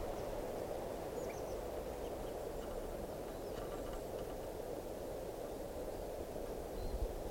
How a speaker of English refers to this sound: there's a wild type 2 crossbill here, giving toops.